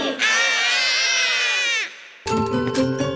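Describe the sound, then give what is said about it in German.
A voice imitates loud, wailing crying and screaming in one long sustained cry, then breaks off; after a brief pause, a burst of music starts. “Und machen lang Geschrei.”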